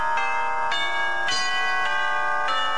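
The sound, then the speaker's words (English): Clock bells chime a slow tune, five bright strikes about half a second apart, each tone ringing on and blending into the next. No voices. “If you will start your magnificent clock and its song...”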